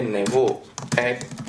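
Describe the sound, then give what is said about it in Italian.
Quick clicks of typing on a computer keyboard, fairly loud, tapping in short irregular bursts while a voice speaks over them, as reference text for a web link is typed. “Scriviamo un testo di riferimento.”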